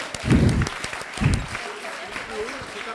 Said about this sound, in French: Attention. 1, 2, 3. Je peux vous applaudir, hein ?